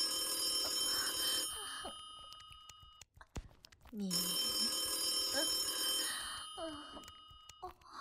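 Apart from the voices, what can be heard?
telephone ringing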